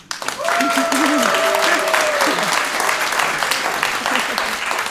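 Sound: audience applauding and cheering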